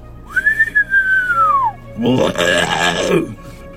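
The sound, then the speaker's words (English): A person imitates a sound heard moving toward their camp: an inhale whistle like a human whistle, rising then slowly falling for over a second, followed after a short pause by a deep, very bassy guttural growl with a rasping, throaty texture. “And the best way I can describe this sound was an inhale whistle, like a human whistle, followed by a deep guttural, I mean, really bassy, huge lung cavity, you know, growl.”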